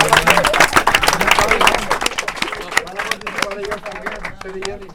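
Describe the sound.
An audience breaks into loud, dense applause for a team, many hands clapping rapidly, with voices chattering underneath; the clapping thins slightly toward the end.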